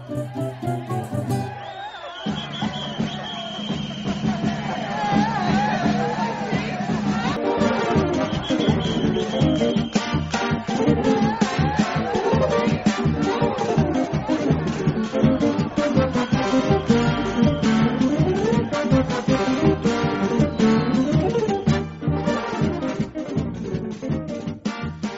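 A lively instrumental frevo plays at a steady, loud level, with brisk, busy rhythms and bright layered melodies throughout, and no voices.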